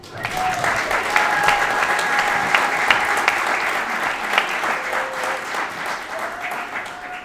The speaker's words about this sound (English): I would like to give another big round of applause to the Riverview Orchestra Club.